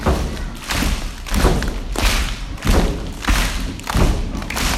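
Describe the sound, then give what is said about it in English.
Rhythmic hand clapping in a steady beat, roughly seven loud, full-bodied claps spaced evenly over a few seconds, with no voices over them. “Alright, stop! Clap! Clap! Clap!”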